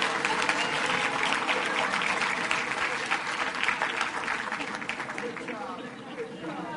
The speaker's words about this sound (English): Give her a big hand clap, everyone.